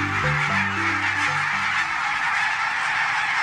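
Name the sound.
barnacle geese honking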